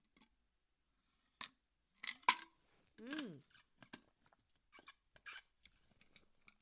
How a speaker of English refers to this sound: Oh, Lord, that's refreshing water from the lakes of Minnesota. Shout out to Bobby Boucher. That, gulp of water recharged me, Lord.